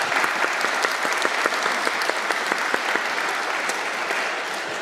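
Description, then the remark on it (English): A crowd at a local music concert at St. James Westminster claps steadily for about five seconds, applauding local businesses that support local music: a dense, even patter of many hands with sharp individual claps popping out, holding a strong level before easing slightly at the end. “So a round of applause, please, for those good folks.”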